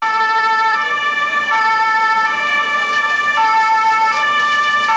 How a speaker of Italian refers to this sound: Le sirene, gli scontri degli agricoltori davanti alla sede dell'Unione Europea a Bruxelles, cosa c'entra? Sentiamo.